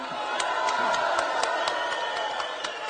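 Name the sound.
audience applauding and cheering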